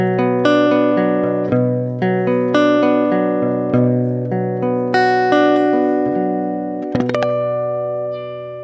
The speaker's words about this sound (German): So ungefähr hört sich das dann an mit Marimba.